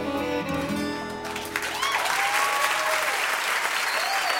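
A final sustained musical chord at the end of a live song performance gives way to a loud, steady wash of audience applause and clapping for the band, with a few whistles or cheers rising above it, continuing to the end.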